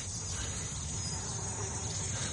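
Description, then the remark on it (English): A dense swarm of bees from native beehives beyond a railway cutting buzzes in a steady, unbroken drone with a low rumbling undertone, filling the whole moment at a moderate level with no voices. “It's bees, sir.”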